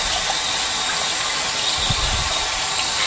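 Tap water runs steadily in a continuous hissing stream, fairly loud, with faint splashing and low thumps as a left hand is rinsed underneath.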